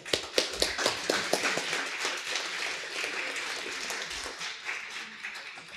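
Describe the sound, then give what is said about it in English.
An audience applauds Guillaume and Paul after their talk, with a dense patter of many hands clapping at once. It starts with a few sharp, louder claps, then settles into a steady, moderately loud wash of applause. “Big applause again for them.”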